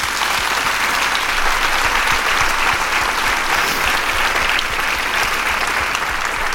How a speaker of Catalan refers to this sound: I si us plau, els hi demano un aplaudiment pels corranters que ho fan possible. Gràcies.